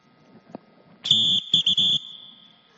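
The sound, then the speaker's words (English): A shrill, high-pitched whistle sounds loudly in one long blast, then two quick shorter bursts, with a faint buzzy trill under the tone. A brief click comes just before. “A whistle can get our attention real quick, can it?”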